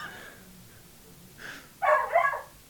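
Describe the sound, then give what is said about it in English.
Dogs bark in a short burst of two or three overlapping, fairly loud yaps near the end, with fainter barking before it against a quiet background. “Shut them fucking dogs up.”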